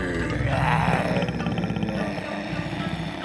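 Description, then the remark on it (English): A deep, rumbling lion growl rolls on for a few seconds, loud, with a rough, throaty texture and no voices over it, as Lion takes off after Rabbit. “Lion growled and took off after Rabbit.”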